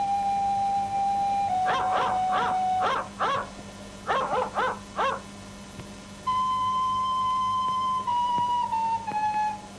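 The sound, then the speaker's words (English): Dogs howling in long, steady, slightly falling tones, broken up midway by a run of short yelping cries, clear over a low steady hum, with no one talking. “I always hoped there would be dogs.”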